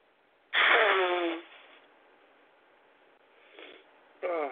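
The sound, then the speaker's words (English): A single loud, abrupt sneeze bursts out, followed by quiet breathing and a couple of softer sniffs or breaths afterward. “Okay, I've got a sneeze.”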